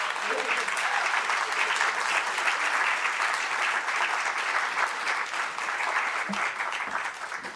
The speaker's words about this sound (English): Thank you. That's it. You clap it up. That's it.